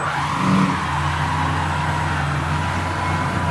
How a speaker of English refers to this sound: The tires are smoking. Look at the cloud back there.